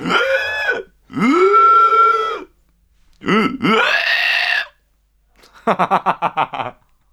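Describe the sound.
A voice imitates a pig, with three loud, drawn-out guttural grunts followed by a quick stuttering burst of short snorting pulses.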